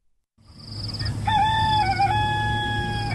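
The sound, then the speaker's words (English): A family's rooster in the village of Lafidzi, Malawi, crows once at 4:30, loud, a long drawn-out cock-a-doodle-doo with a high shrill onset, over a low steady background hum. “At 4:30, the Piri family's rooster crows.”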